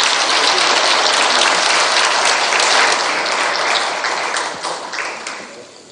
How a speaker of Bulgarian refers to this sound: Аплодисменти за Десислав Димитров.